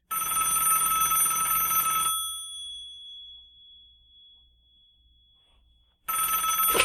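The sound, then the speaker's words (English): A telephone rings on an outgoing call: a loud burst of bright ringing lasting about two seconds, a long pause with a fading tone, then the ring starts again. No one speaks. “Let's bring him up on our telecommunications device. The phone? Yeah, the phone.”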